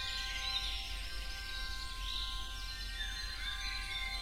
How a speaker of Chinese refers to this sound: 你听到小鸟叽叽喳喳地唱着欢快的歌曲